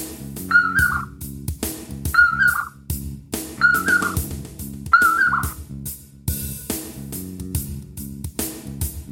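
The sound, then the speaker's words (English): A short whistled call of a common poorwill, a nightjar, repeats four times at steady intervals of about a second and a half, clear, over a steady backdrop of rhythmic music. “And whatever terrible sound the nightjar makes, the common poor will. That's a strange bird.”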